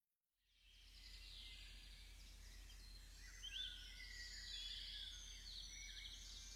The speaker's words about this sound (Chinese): 你听着那动听的鸟鸣，仿佛看到一片非常开阔的绿油油的草地，草地上开着鲜艳的花朵，散发着沁人心脾的香气。